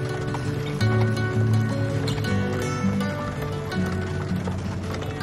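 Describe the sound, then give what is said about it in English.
Dappled gray horses pulling a carriage clip-clop at an unhurried walking pace along a hard road, steady, layered over a sustained low musical drone that runs throughout. “The horses pulled the carriage away. Just our luck. the dappled gray horses plod down the road.”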